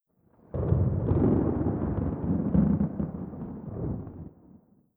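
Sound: thunder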